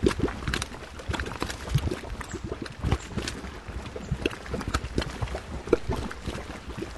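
Steady bubbling and gurgling of hot springs and boiling mud pools in a volcanic geothermal area at about 800 metres on the south side of a volcano in Costa Rica, with dense irregular pops and blurps bursting continuously throughout, no voices present.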